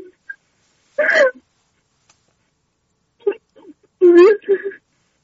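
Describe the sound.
A caller on a phone line from Isfahan cries and whimpers in short, broken bursts with gaps of silence between them, a wavering voiced wail at about one second and another shakier sob near the end.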